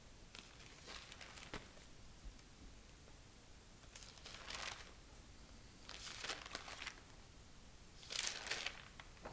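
Soft papery rustles of book pages being turned, four separate crinkly flips spaced a couple of seconds apart, fairly quiet, with no talking.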